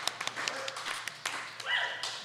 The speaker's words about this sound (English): Your wife clapped louder than anyone.